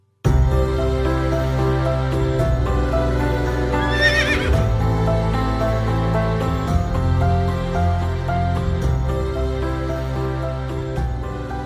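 A single loud horse whinny rises and falls midway through, set over a full, continuous music bed that plays from start to finish without any talking.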